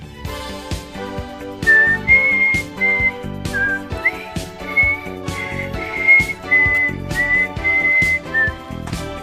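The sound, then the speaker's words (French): Someone whistles a tune off-key, the thin wavering melody riding loud over a steady backing of instrumental music with regular percussive beats, no voices. “Oui, on sifflote, mais contrairement à ce qu'on vient d'entendre, nous, on sifflote juste.”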